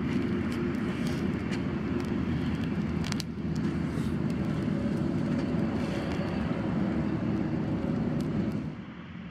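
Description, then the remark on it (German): Steady rumble of traffic from a nearby highway, with cars rushing past continuously and a dense low roar that holds level before easing slightly at the end. No voices. “Nur die Autos der nahen Schnellstraße sausen unbeeindruckt vorüber.”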